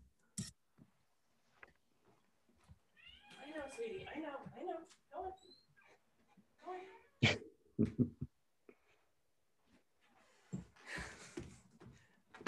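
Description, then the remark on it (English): A kitten meows at a closed door in a short run of high, wavering cries, mixed with sharp taps and scratching knocks, then a burst of rustling noise near the end. “This kitten doesn't understand doors.”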